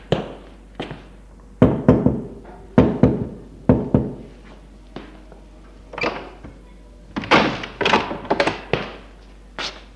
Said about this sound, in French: Le lendemain après-midi, il va frapper à la porte